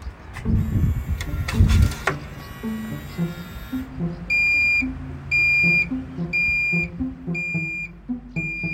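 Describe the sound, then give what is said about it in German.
A Velospot bike-share bicycle lock beeps as it unlocks: a handful of short, bright electronic tones in an uneven rhythm, after a brief burst of mechanical rattling and clicking at the start. “Rechts geht Piepsen. Das ist so ein bisschen das Modernere.”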